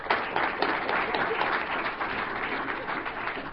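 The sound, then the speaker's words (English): An audience applauds steadily for a few seconds, a dense, even wash of many hands clapping at once that holds its loudness from start to finish. “Clap already.”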